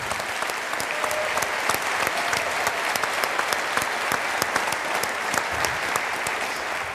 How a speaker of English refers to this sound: big applause for the box.